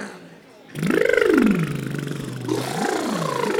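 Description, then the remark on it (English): A buzzing lip trill, the 'motorboat' vocal warm-up exercise done to shake phlegm off the vocal cords before singing. The lips flutter while the voice sweeps up and down in pitch in two rising-and-falling glides, with a rough, motor-like rattle throughout. “This is the motorboat.”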